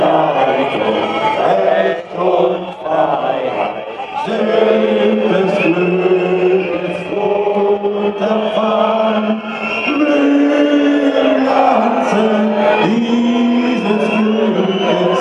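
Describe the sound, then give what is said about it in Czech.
A crowd sings the German national anthem slowly and sustained while Antifa protesters blow shrill whistles again and again, loud and continuous over the singing, at a demonstration on 30 July 2016 at Washington Platz. “Samozřejmě slyšíme tady agresivní sluníčka Antifu, kteří pískají do německé hymny, to je tradice, jak jsme si zvykli.”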